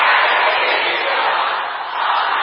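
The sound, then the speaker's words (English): An audience of sisters shouts a prayer together against every hidden curse of family life, many voices merging into a loud, dense, continuous roar that holds steady throughout, dipping slightly just before the end. “Sisters, can I hear you shouting this?”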